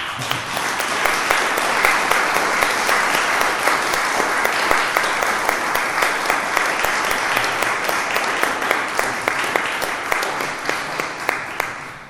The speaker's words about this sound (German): Und ich glaube, das ist die Stelle, wo wir euch mal einen Beifall geben.